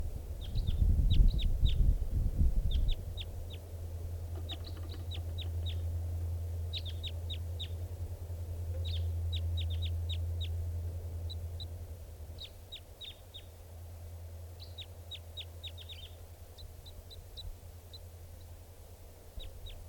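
A bird sings in short bursts of high, thin chirps, repeated in clusters with brief pauses between, over a steady low rumble and a louder muffled thump at the start.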